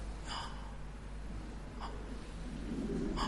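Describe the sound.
A voice imitates the labored, gasping breaths of a dying 100-year-old man, with three sharp catching inhalations spaced about a second and a half apart over a steady low background hum.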